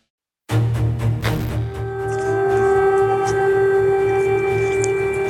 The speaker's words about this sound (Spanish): Y voy a dejar que suenen un poco las sirenas que podemos escuchar claramente aquí en el centro de la capital, en Kiev, en donde claramente ahora está entrando la ley marcial.